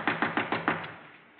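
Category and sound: sound effect, knocking on a door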